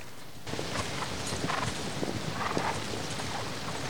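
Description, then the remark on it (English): A ridden horse comes down a hill under gathering storm clouds, its hooves churning up the mud in a continuous run of soft, squelchy clip-clop steps, starting abruptly and continuing without pause or voices. “The horse's hooves churn up the mud as he rides down to meet her.”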